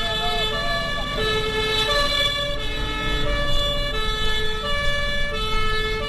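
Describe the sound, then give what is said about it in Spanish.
A fire engine siren of the Córdoba city fire and rescue service wails steadily and loud, its tones sliding up and down over the deep rumble of a heavy truck engine. “Y para llegar al final, nos vamos a montar en un camión de bomberos.”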